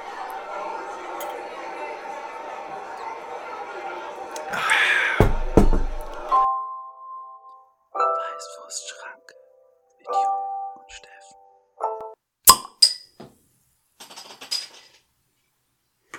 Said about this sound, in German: Und mit diesem Bieröffne-Geräuschen,